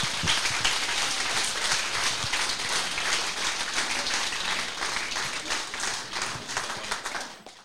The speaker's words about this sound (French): Et je voudrais qu'on applaudisse toutes ces personnes, s'il vous plaît.